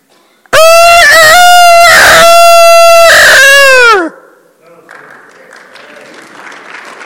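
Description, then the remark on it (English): A person lets out one loud, sustained rooster crow imitation that wavers and then drops off at the end, followed by a burst of applause and crowd noise. “Anyone can do a good rooster crow?”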